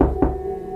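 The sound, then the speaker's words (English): A short, solid knock at an office door at midnight, a couple of dull thuds close together, followed by a low steady hum in otherwise quiet surroundings. “At midnight, there was a knock at the door.”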